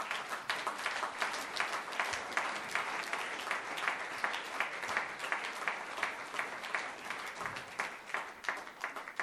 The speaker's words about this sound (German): Da ist schon mal die Band. Applaus für die Band.